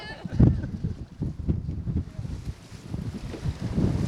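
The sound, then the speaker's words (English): Strong wind buffets the microphone in heavy, low rumbling gusts while a boat moves at a slow, steady pace over open water. The gusts rise and fall over a faint wash of waves beneath, with no clear speech. “Are you getting good wind sounds?”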